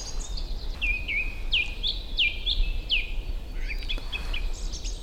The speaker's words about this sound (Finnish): On tosi jotain hienoa tuossa laulurastaan äänessä. Erikoinen ilmiö. Mä kun on tässä puun alla, niin se on jotenkin vaimeampi kuin se, että olisi tuossa 100 metrin päässä. Metsä jotenkin voimistaa sen ääntä.